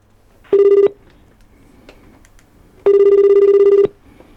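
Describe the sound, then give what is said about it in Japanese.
A telephone rings twice before being answered by the commerce and tourism section of Urayasu City, Chiba Prefecture, with a steady, buzzing electronic tone, a short burst followed by a longer one, fairly loud and clear, with quiet pauses around them and no one speaking. “今回は電話での出演となります。”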